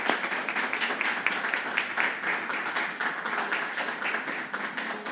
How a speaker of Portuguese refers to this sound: Os nossos homenageados, por favor, que fiquem de pé, recebendo os aplausos de todos nós aqui. Parabéns.